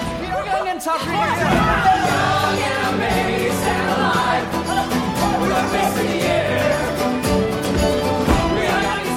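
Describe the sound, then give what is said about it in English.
A large crowd of protesters in Tahrir Square, Egypt, roars and chatters continuously in real news footage, many voices overlapping into a loud, steady hubbub with cheering rising through it, and no single speaker standing out. “The play blends real news footage, here the sounds of cheering protesters in Tahrir Square, with musical recreations, here that moment on stage.”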